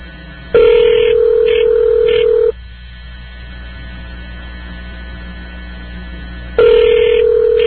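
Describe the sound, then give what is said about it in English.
Two long, steady ringback tones over a telephone line, each about two seconds, separated by a four-second pause filled with faint line hum. The second ring starts near the end and is cut off. “Well, it's ringing.”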